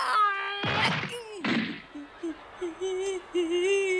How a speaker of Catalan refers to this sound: Torna a apropar-se en Goku, li atziva una puntada de peu a la cara i el llança de cul a terra uns metres enllà.